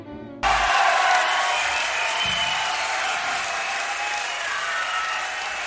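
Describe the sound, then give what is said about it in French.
An audience breaks into sustained applause for the readers of the month's short stories, starting abruptly and holding steady as a dense wash of many hands clapping at once, fairly loud, with no talking over it. “Qu'ils en soient chaleureusement remerciés et on les applaudit bien fort.”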